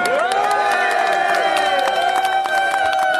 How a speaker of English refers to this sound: Well, there's at least some applause there, John.